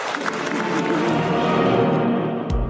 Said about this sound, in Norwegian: Skal vi gi dem en varm applaus?